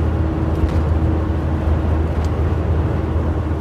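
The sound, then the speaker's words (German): A camper bus drives fast downhill with a slight tailwind on the 81, its engine and road noise forming a steady, loud low roar with a constant whooshing rush throughout and no voices. “Ich bin jetzt auf dem Abschnitt, wo ich mit meinem Bus auch mal ein bisschen schneller fahren kann, weil es geht bergab und ich habe ein kleines bisschen Rückenwind.”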